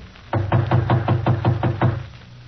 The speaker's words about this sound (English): Evidently, he's home, too. The door's partly open. If he's home, why doesn't he answer? I'll knock again.